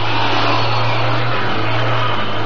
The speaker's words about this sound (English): What's that? Sounds like the truck they were talking about. There it is. The headlights. It's coming this way.